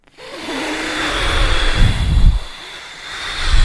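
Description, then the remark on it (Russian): During a guided breathing exercise, after a deep inhale and a turn of the head, a long, forceful exhale is pushed out through puffed cheeks, a steady breathy rush of air lasting several seconds that swells into a rougher, blustery gust midway before easing off. No one speaks. “А теперь сильно-сильно начинаете мне выдыхать на меня”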